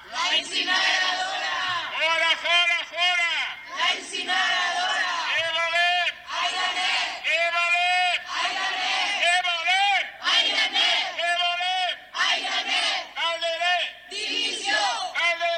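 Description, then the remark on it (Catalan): A crowd of protesters from a platform opposing an incinerator chants slogans in unison, loud rhythmic bursts of shouting repeating in phrases with short gaps between them, continuing steadily throughout. “I aquests eren els crits de la plataforma, que ha reclamat també la dimissió de l'alcalde”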